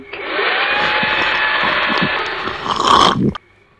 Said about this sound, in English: What happened? Where did he go? I think Olipop's been sucked up into the Hoover. Yeah, methinks it's time to empty the bag.